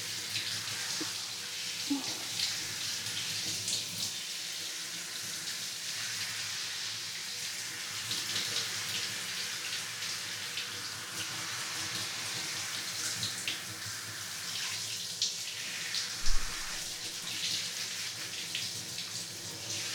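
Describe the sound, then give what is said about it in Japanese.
Steady water from a shower head sprays continuously for the whole stretch, rinsing a person's hair before a shampoo, an even hiss with slight splashing variations and a brief thump near the end. “どうでしょうか？シャワー、熱くないですか？”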